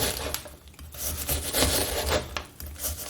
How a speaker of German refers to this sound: Ich schneide mein Zwiebelchen in kleine Würfelchen.